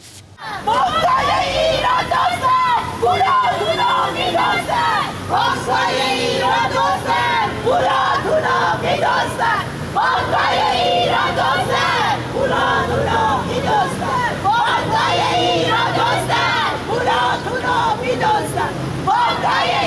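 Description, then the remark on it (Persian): A large crowd of protesters, people who lost their money in the Caspian financial institution, chants loudly in unison at a protest gathering, many voices rising and falling in steady rhythmic slogans that continue for the whole stretch with little pause. “اما باز هم ویدیویی داریم از تجمع اعتراضی مالباختگان مؤسسه مالی کاسپیان.”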